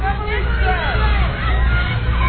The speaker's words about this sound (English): They're all yelling the words to him.